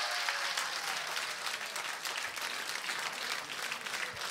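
Sustained audience applause, a dense steady wash of many hands clapping at even loudness throughout, with no voices standing out.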